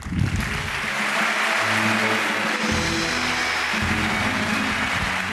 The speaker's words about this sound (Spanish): Muchos aplausos